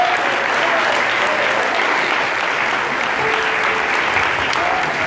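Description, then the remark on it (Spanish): A church audience claps steadily throughout, applauding the preached word in faith, a dense, sustained wash of applause at a fairly loud, even level, with faint voices murmuring underneath. “Y usted tiene que aplaudir con fe esa palabra.”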